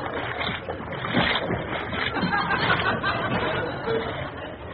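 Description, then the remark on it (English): Steady sloshing and splashing of salt water as someone wades through shallow sea holding an aerial, continuous, with faint voices murmuring in the background. “Go on, cut hold of that aerial and get wading.”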